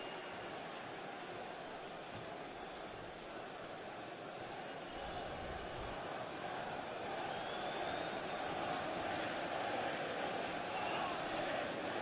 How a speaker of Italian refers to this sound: Applausi per lo storico capitano.